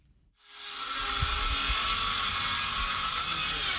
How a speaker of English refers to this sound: The roar of power drills fills the air in the village of Guidemartin, a typically quiet community of 2,000 people located some 100 kilometers from the Senegalese capital of Dakar. It's an unusual sound to behold in a village with no electricity,